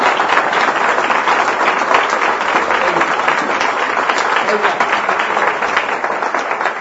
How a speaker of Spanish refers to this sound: Entonces, ese aplauso tiene que ser muy grande, alabando a Dios.